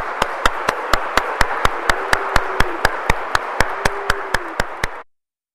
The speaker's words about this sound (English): And so how about a round of applause for the newest members of our family?